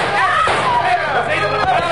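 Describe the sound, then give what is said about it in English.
Two sharp gunshots crack out about a second apart inside a shack over agitated, overlapping voices, the bangs punchy but partly buried beneath the shouting. “Don't shoot again, senor!”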